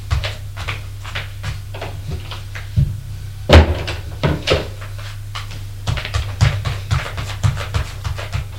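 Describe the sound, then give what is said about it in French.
A door thuds shut with one loud bang as a woman leaves an apartment, surrounded by scattered lighter knocks on the concierge's door and clicks, all over a steady low hum, with no one talking. “Et va frapper à la porte de la concierge qui lui ouvre.”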